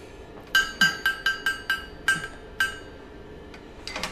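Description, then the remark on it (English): A hammer strikes hot metal on an anvil about eight times in a steady rhythm that slows toward the end, each blow loud and leaving a bright metallic ring, with no one talking; the smith is rounding off the corners of the piece. “Changing hammer again.”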